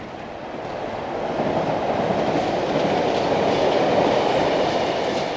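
A train rumbles steadily along the rails, a dense continuous roar with faint rhythmic clatter, growing slightly louder in the first second and then holding loud with no voices.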